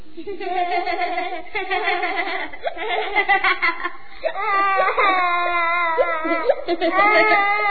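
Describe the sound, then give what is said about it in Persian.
A high, quavering voice sobs and wails, its cries rising and falling without a break for several seconds: a vocal imitation of a small creature, the little daughter of the fairy king, crying. “ده ده نگاه کنا داره گریه میکنه.”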